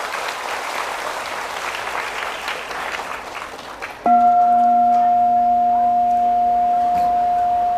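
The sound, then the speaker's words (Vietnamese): A crowd of young people claps loudly and steadily for about four seconds, then a sustained electronic tone with a clear high pitch and harmonics abruptly takes over while faint clapping continues underneath. “Nếu các bạn thấy là nó có giá trị á, thì hãy dâng cho một tràng vỗ tay thật lớn để cam kết làm.”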